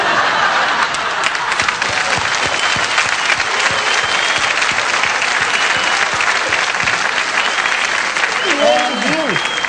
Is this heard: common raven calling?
no